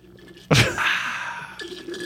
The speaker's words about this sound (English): Just both of you just drinking sodas tonight. And I have water. Mine's actually Fresca.